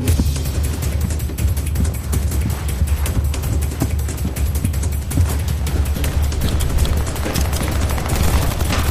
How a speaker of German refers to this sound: Ich war den Schüssen ausgewichen. Mein Schuss saß hingegen perfekt. Der Mann fiel zu Boden.